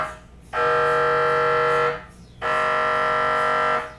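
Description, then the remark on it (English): Two long, loud, harsh buzzing blasts from a medical imaging scanner, each about a second and a half, separated by a short pause, with a steady low hum underneath. “It felt like we were stuck inside a washing machine or a packet of polos. The noise was deafening.”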